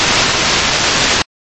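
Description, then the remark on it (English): A loud burst of harsh, hissing radio static fills the air for over a second, cuts out abruptly, then crackles back in briefly at the end. No voices are present. “Delta, this is your mountain static insertion.”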